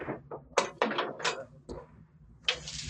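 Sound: door opening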